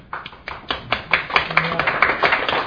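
Audience applause: many hands clapping in a dense, irregular patter that starts abruptly and holds steady at moderate loudness for a couple of seconds, with a faint murmur of voices mixed in.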